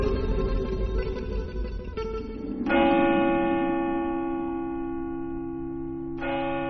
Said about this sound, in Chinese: 1672年5月30日，俄国各教堂钟声齐鸣。这一传统仪式是在庆祝沙皇阿列克塞·米哈伊洛维奇的一个儿子的诞生。